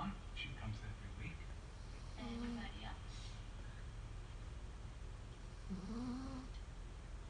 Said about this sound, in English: snoring.